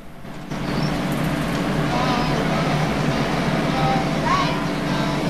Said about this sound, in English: Along the road trundles the yellow school bus. The bus goes over the Golden Gate Bridge. It's dwarfed by the enormous struts and pillars.